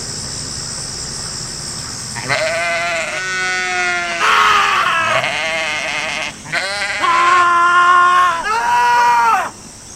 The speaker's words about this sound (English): This is really an exercise on how many screaming goats will you guys tolerate.